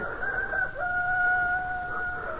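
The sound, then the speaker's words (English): A rooster crows in one long, drawn-out call, its loud, strained tone holding steady at a high pitch for over two seconds, with no other voices present. “The cock crew.”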